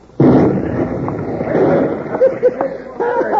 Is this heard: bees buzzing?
no